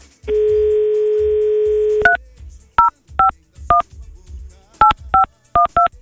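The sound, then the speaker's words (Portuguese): A steady phone dial tone hums for about two seconds, then gives way to a series of short, clear keypad beeps pressed at an uneven pace as a number is dialed to call a massage parlor, with no one talking. “eu duvido você ligar na casa de massagem e pedir uma mulher sem estria.”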